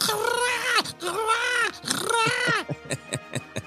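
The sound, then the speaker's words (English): Trandoshan hunters hooting: three loud, drawn-out harmonic cries that rise and fall, followed by a quick series of short rhythmic grunting pulses. “I was hoping that the noise that would bring us into the Clone Wars Report today would indeed be the hooting, as the captions say, of the Trandoshan hunters.”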